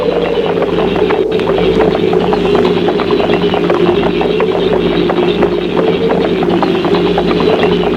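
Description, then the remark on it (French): Horse hooves clop steadily over hard, frozen ground at night, a string of repeated thuds carried beneath a loud, continuous low drone, with no one speaking. “Le bruit des pas de cheval sur le sol gelé.”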